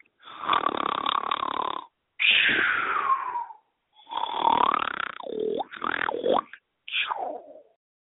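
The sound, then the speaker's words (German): A comical snoring sound effect: five loud, rasping snores in a row, each lasting a second or so with brief pauses between, some ending in whistling, wheezy tones. No talking. “Tja, schnarchig oder informativ?”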